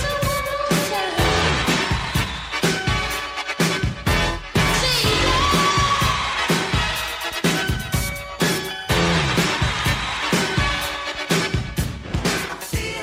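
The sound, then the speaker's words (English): A loud, roaring crowd cheers continuously throughout on a 1963 live record sampled in a later hit song, its dense wash of noise nearly burying live music with a steady beat and melodic lines playing underneath. “buried under the sound of a roaring crowd, you can hear … deep in the mix”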